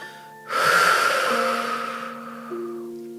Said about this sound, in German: Wir atmen ganz tief durch die Nase ein und durch den Mund aus. Das kannst du hörbar machen oder nicht. Wir atmen ein, ganz tief in den Brustkorb und in die Flanken ein. Und wir atmen aus.